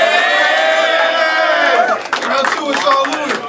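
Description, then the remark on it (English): A loud crowd cheers and shouts steadily, many voices blending into a sustained roar with scattered higher yells, dipping briefly around two seconds before swelling again. “Make some noise.”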